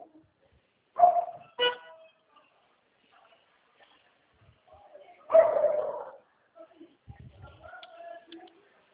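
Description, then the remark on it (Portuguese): Dogs bark in short, sharp bursts: two quick barks near the start, then a longer, louder volley a few seconds later, followed by faint rustling and scattered softer sounds. “Cadê seus cachorros? Mais os cachorrinhos?”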